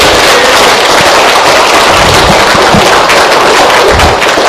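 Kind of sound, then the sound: crowd, audience applause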